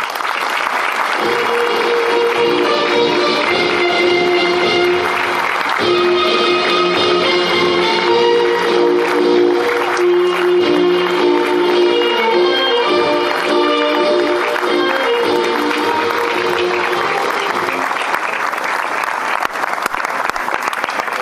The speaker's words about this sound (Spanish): Recibamos con un aplauso la bandera.